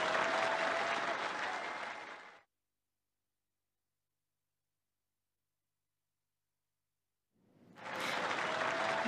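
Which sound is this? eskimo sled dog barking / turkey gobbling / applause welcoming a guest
applause welcoming a guest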